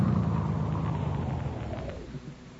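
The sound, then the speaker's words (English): A car engine rumbles, low and steady, then gradually quiets as the vehicle slows and pulls to a stop at a gas station at night. No one speaks. “Hey, look, here comes a car now.”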